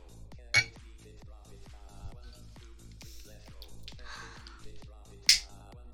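Glasses clink together in a toast, two bright, ringing taps several seconds apart, each short and sharp, standing out above a steady, softly pulsing background of music and murmur.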